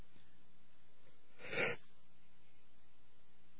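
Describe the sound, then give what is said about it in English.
A single muffled sneeze from a broadcaster who had hit the mute while on air bursts out midway through an otherwise quiet stretch, short, with nothing else but faint background hiss around it. “Had to hit the mute because I didn't want to sneeze on the air.”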